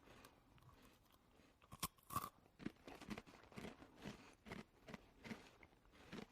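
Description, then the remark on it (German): Loud crunching as someone bites and chews a crisp, flaky puff pastry cheese stick, with a steady run of sharp crackly bursts and no talking. “Knuspert jedenfalls sehr laut.”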